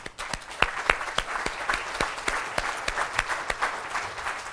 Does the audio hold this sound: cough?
no